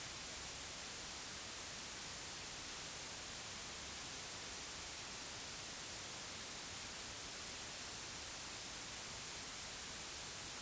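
Steady white noise hisses evenly across the whole stretch, a dense, unbroken static wash with no changes in level, no pauses and no voices.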